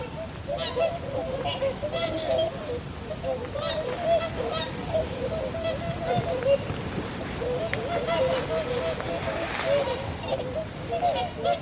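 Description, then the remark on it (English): A couple of greylag geese honk and cackle in repeated bursts over steady outdoor background noise like running water or wind, with a faint high chirp now and then. “Couple of geese in there, couple of grey-lag geese.”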